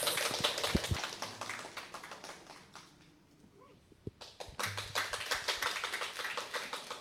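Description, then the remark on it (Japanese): An audience applauds a guitarist about to play his second piece, with a dense, steady patter of many hands. The clapping thins out briefly midway, then swells back to full strength until the end. No one speaks. “それでは拍手をお送りください。”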